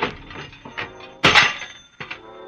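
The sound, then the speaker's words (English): A telephone is wrenched off a wall: scraping, rattling clatter, then a loud splintering crash with a jangle of metal, followed by a smaller knock and fading rattles. “Well, before I try, I'm going to rip something off. No, not your head. Just the telephone.”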